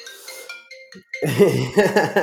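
signal or alarm, phone ringtone

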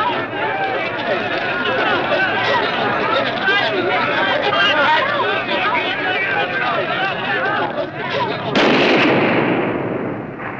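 impact, gunshots

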